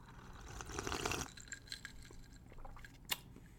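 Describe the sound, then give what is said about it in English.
Topo Chico sparkling mineral water pours into a glass of tequila and cherry drink for about a second, a soft rushing splash, followed by quiet fizzing and scattered little crackles of bubbles. “It's just I'm going to pour a little bit more Topo Chico in here.”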